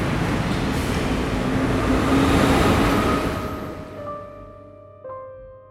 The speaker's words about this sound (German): Gleis 13, bitte Vorsicht, der Zug fährt ab.